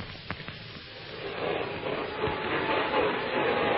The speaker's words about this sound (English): Wait a minute. Listen. Sounds like a vacuum cleaner. Yes, it does. On the other side of the door.